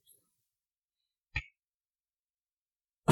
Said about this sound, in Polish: Dobra, ten kaszel mnie męczy strasznie.